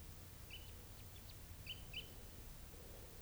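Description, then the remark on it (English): A small flock of type 3 birds gives a few brief, high chip calls, three or four in all, faint over a low steady rumble, with no talking. “There's a fairly good sized little flock here of type 3s.”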